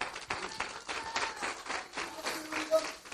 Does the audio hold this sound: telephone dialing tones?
no